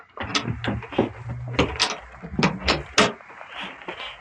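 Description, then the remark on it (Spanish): A door is pulled shut, with a series of clattering knocks and handle rattles spread over a few seconds before it settles. “Cierren la puerta. No quiero oídos indiscretos aquí.”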